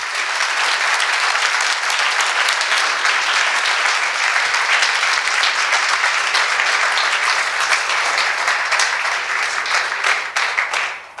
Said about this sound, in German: Nochmal bitte einen großen kräftigen Applaus für alle, die hier so einen tollen Lightning Talk gehalten haben.